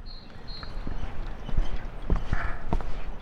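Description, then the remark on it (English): Hollow, irregular footsteps thud across the wooden Dark Island Swinging Bridge in Townsend, several clear knocks, over a steady wash of the Little River flowing below. “The sounds of footsteps in Little River flowing make visiting the Dark Island Swinging Bridge in Townsend a unique experience.”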